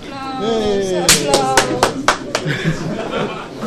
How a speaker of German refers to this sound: Ja, gibt's spontan Applaus hier für unser Podcast.